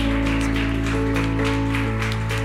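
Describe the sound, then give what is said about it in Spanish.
A church audience claps steadily in a dense, continuous wash of applause to God in praise, layered over sustained keyboard chords that hold a low, even tone throughout. “¿Qué tal si, iglesia, juntos levantamos un fuerte aplauso a Dios en alabanza?”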